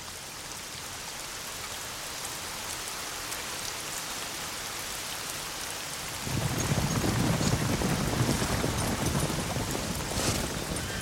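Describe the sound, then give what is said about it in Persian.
Steady, dense rain hisses throughout, growing heavier and louder about six seconds in with a deeper rumbling wash beneath it, like a downpour in a storm. No voices are heard. “اگه طوفان از این شدیدتر بشه منورمونم بلا استفاده میشه.”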